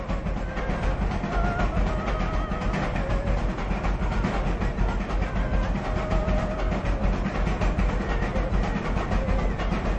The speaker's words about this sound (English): That's a noise we'd never tolerate in our neighbourhood today. It's a stamping battery, recorded at Bendigo's Central Deborah Mine, where it crushes quartz rock to sand to extract the gold.